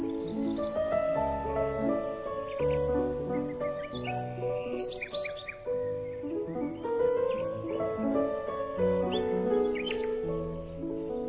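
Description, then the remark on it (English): Birds sing and chirp steadily in springtime for about eleven seconds, a busy mix of short tweets and longer warbled phrases over a full, continuous tonal background, moderately loud, with no talking. “Oh yes, springtime with sunshine and birds and warm breezes wafting.”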